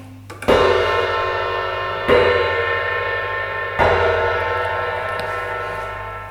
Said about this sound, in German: Schlägt die Turmuhr der Stadt erneut.